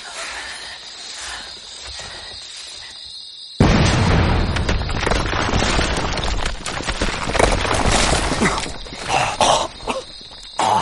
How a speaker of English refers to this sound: Might have overdone the dynamite.